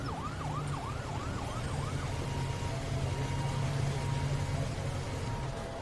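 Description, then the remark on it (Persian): A police siren wails in quick rising-and-falling sweeps for a couple of seconds, then fades while steady engine rumble continues as a police van pulls up in front of a courthouse, a motorcycle parks behind the van and a car arrives, with no talking. “فرشته جلوی دادگاه از ون پلیس پیاده میشه. موتور مشفق پشت ون پارک میکنه. بعد ماشین حامد میرسه.”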